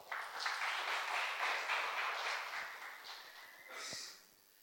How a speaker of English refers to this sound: So let's have an expectation from the Lord and let us give him an encouraging clap. Come on.